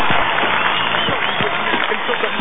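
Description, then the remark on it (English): A large wrestling arena crowd at a WWA show roars steadily, loud and dense throughout, with voices merging into rhythmic chanting and cheering without a break, as cruiserweight legend the Nightmare Todd Knight stands on the entrance ramp amid clearing smoke. “and as it smolders off and drifts away, you can see the cruiserweight legend, the Nightmare Todd Knight, standing in the middle of the WWA entrance ramp, and this crowd is still chanting, folks.”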